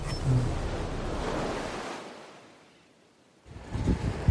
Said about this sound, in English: So we're on the beach now. It's quite windy and quite cold.